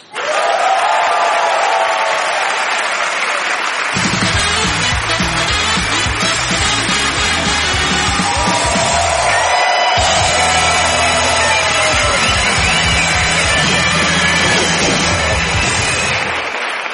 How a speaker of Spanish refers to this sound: Y ahora os pido un fuerte aplauso para el siguiente invitado de la noche, el siempre impecable Miguel Lago.